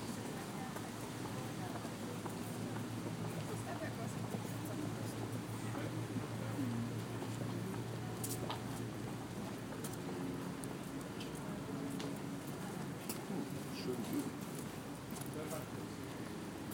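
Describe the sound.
Busy outdoor ambience on a riverside path in London on a very hot, sunny day: a low, steady engine drone from boats passing on the river, with indistinct voices and scattered footsteps and clicks as people walk, run and cycle past.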